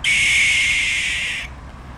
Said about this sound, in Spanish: El sonido de la lechuza es este. Este lo grabé a las 5 de la mañana.